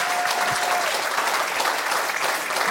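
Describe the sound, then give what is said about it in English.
Sustained applause from a church audience celebrating the installation of a new lead pastor at San Diego New Break. A dense, steady wash of many hands claps at even loudness throughout, with a brief faint whistle-like tone early on. “Will you give a big rousing applause to that?”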